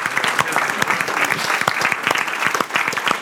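A room full of people claps steadily for their pastor, a dense, sustained round of applause with many overlapping hand claps, loud, with no voices standing out.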